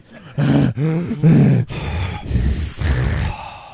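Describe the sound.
A voice closely imitates heavy, respirator-like breathing: several loud, rasping inhales and exhales in a slow rhythm, some with a throaty, groaning tone, and no other talking.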